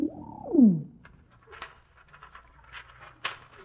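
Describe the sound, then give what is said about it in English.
A pigeon with a little tube tied to its leg, carrying a message, gives one loud coo that glides downward in pitch, followed by quieter scattered rustling and soft fluttering noises. “this pigeon's carrying a message.”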